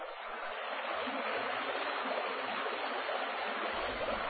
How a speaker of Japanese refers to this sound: などと言いながら進むうちに、村外れまでやってきた一行。そこで大きな川に出くわす。